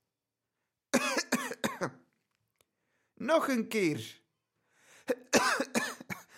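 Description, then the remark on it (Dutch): Three short bursts of hoarse coughing from a nun, a nun whose health is weakening before Easter. Each is a quick cluster of harsh coughs separated by brief pauses, with a voice speaking briefly in between. “Hoesteens?”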